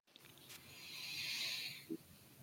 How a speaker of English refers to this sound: It was calm, although I think he had the sniffles there. I don't think he was trying to impersonate Hunter.